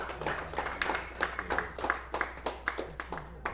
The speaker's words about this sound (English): Keep yourselves a round of applause. You're all beautiful. Thank you.